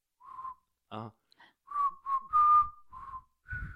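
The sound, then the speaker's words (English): A person whistles a short, wavering tune, a string of separate held notes with brief gaps, broken early by a quick breathy vocal burst. “Let me whistle.”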